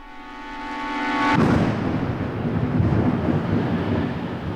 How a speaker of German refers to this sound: Blitze in schneller Folge. Ein donnerndes Krachen.